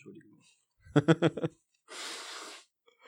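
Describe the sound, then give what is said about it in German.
A quick series of four short snuffling snorts, then one sustained, hissy nose blow into a tissue lasting under a second. The sounds are moderately loud and there is no talking. “Ja, ich muss hier einmal ins Taschentuch ran.”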